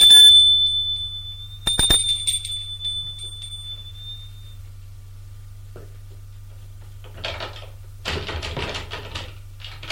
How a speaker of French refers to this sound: Vincent sonne à la porte de droite.